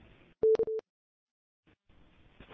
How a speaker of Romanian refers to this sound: A fost o stație cu un bip la urmă, un chei, litera K.